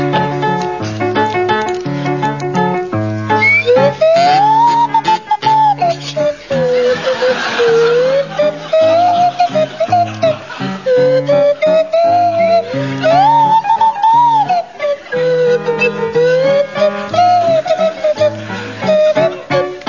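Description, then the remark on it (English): A kazoo played by Barry Cryer buzzes and a swanee whistle played by Graham Garden swoops up and down through a jaunty tune over steady accompaniment, loud and continuous for the whole stretch, with scattered chuckles from listeners. “it's to feature Barry Cryer on kazoo and Graham Garden on Swanee Whistle.”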